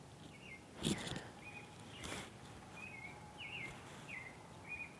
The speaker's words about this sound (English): It's like 4:45. The birds are up. I don't know if you can hear them. The birds are up and coyotes were just howling.